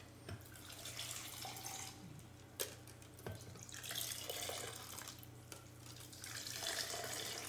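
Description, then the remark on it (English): A steady stream of liquid is poured over crushed ice for several seconds, a continuous splashing rush punctuated by a few sharp clicks and cracks. No one speaks. “Is that enough crushed ice? I guess it'll have to be. Oh, that's more than enough. Yeah. Yeah, pour it at that end.”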